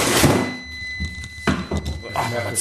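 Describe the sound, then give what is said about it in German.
A refrigerator door shuts with a dull thunk partway through. A thin, steady high tone stops at the same moment, and soft voices and faint clatter can be heard around it. “Mach es mal wieder zu.”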